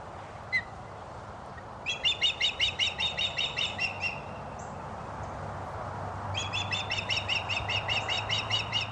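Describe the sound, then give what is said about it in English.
An osprey gives two bursts of rapid, high, whistled chirps, each lasting a couple of seconds with a pause between, heard clearly over a low, steady background rumble. “Okay, and that's an osprey.”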